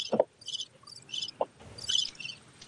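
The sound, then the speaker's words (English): A cricket chirping sound effect: crickets chirp in steady, high-pitched pulsing bursts against a quiet night background, with a couple of brief lower calls mixed in. No one speaks. “Listen, I need to use the crickets more often.”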